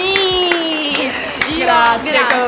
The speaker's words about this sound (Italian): Eccolo qua, l'applauso.